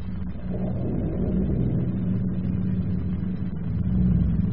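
airplane engine droning

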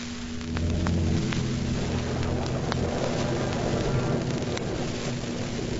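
heavy rain falling

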